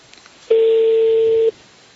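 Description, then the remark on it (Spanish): A single steady electronic telephone tone sounds for about one second, loud, while calling a phone number given for Hyundai spare parts, with quiet background before and after and no talking. “Llamamos a los teléfonos que nos dieron y nos llevaron hasta este teléfono.”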